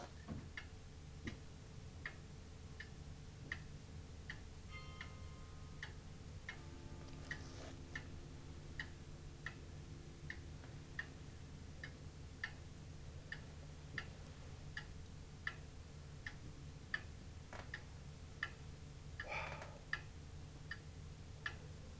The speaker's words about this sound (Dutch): Als wij 's morgens binnenkomen, is het eerste wat we doen de kamer ingaan en luisteren. Horen we getik. En als we getik horen, is het goed. Dan weten we dat alles beweegt.